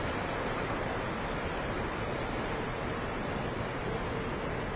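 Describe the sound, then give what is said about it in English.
A steady, unbroken rush of wind and ocean waves streaming past a moving boat on a very hot day as the sun starts to come down, holding an even level throughout with no voices or distinct splashes standing out. “I guess I'm looking westward now because the boat is moving away from where I'm looking.”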